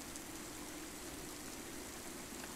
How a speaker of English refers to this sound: Imagine yourself outside, under the rain, with your head up, and your arms wide open.